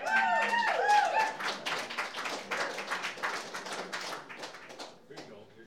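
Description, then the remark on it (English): An audience gives an ovation welcoming a songwriter and guitarist, with dense, steady clapping that starts full and gradually thins out toward the end, and a few brief tonal sounds like cheering mixed in at the start. “Thank you for that wonderful ovation.”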